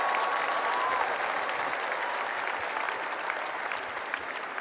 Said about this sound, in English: And my fiance, who's here, and she's sitting right over there, and I think we should have her stand so we could give her a round of applause.